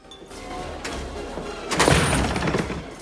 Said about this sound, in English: Jim kicks the doors open and goes in.